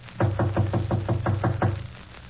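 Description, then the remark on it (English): A quick, even series of about eight knocks on the partly open door of apartment 5D, Mr. Jenkins's home, solid and thudding with a low, hollow body, then the knocking stops and a faint hum remains. No one speaks. “I'll knock again.”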